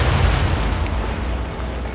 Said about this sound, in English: The action starts with the ironclad USS Tecumseh opening fire on Fort Morgan. Citadel answers in kind, but as the fleet fort duel gets underway, the Tecumseh connects with a torpedo.